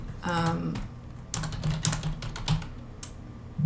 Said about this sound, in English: Oh, he's typing real fast. She's really good.